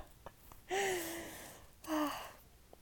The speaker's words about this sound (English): I'm sorry, I hope you didn't get that. It's my my stomach's making noises. Oh my god, no. I hope it didn't ruin it.